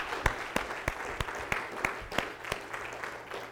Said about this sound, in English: And we had a little bit of clapping there, but can we just clap again and praise the Lord for His faithfulness?